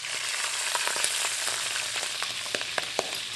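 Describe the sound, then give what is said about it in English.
Steady, loud sizzling of whole cicadas and garlic frying in a hot pan, broken by sharp little pops and crackles scattered irregularly throughout as the cicada wings swell in the heat, with no voices. “The reason they're popping like that is that we're using the whole body here, and actually, amazingly enough, the things like the wings, which are just thin little sheets of exoskeleton, tend to swell up like balloons when they're exposed to heat”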